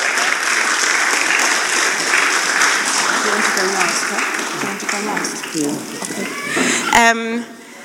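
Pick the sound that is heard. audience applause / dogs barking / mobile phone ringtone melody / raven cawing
audience applause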